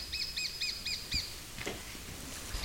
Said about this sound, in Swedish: Är det en falk? Nej, en mindre hackspett. Ja. Det är sånt där läte som folk brukar ha problem med också.